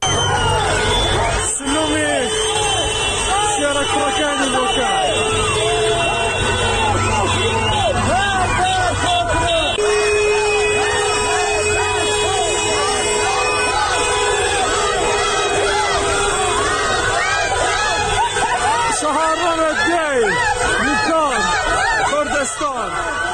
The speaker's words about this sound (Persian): تجمعات در بوکان به دنبال برگزاری مراسم 40 جانباختگان اعتراض‌های هفته‌های گذشته شکل گرفت و معترضان شعارهایی از جمله مرگ بر دیکتاتور سر دادند.